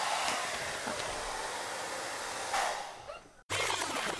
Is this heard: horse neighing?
no